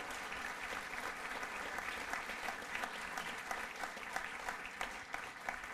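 An audience applauds steadily as a band's bass player is introduced, a dense wash of many hands clapping at an even loudness throughout, with no voices standing out.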